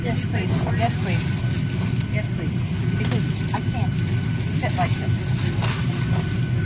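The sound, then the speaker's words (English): Airplane engines drone steadily in a deep, continuous rumble while the plane taxis, holding an even loudness throughout, with faint murmuring voices and small clinks scattered over the top. “They're in the air, it sounds like, or they're taxiing. I never figured out if they're in the air. The engines sound like they're going.”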